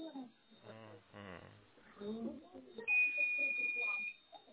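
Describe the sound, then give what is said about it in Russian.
A single sustained high-pitched electronic beep, lasting about a second, sounds clearly while people talk over it, as if from a nearby device such as a battery backup unit. “Вот слышите, пищит кто-то?”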